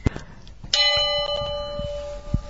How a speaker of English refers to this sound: Just gently ring the bell. Just gently. It's had its clapper removed.